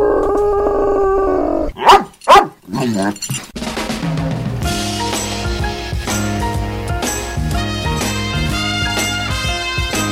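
Sean, Radio Marty's dog, lets out two short, loud howling yelps and then a low growl, sandwiched between a soft tonal passage and upbeat music that starts right after and carries on.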